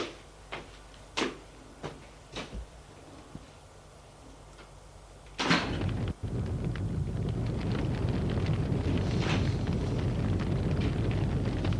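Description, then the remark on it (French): Several sharp, sparse clicks and taps, then a sudden burst as the uncle opens the living-room door, followed by a steady loud rushing, rumbling noise that continues to the end. No one speaks. “Et l'oncle va ouvrir la porte du salon.”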